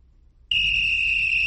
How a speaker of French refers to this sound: c'est le coup de sifflet.